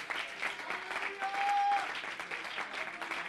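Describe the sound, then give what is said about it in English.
A crowd claps their hands together in a dense, steady wash of applause, sustained and fairly loud throughout, with a brief high whistle-like tone rising above it midway. “Clap your hands. Listen to it. Do it louder.”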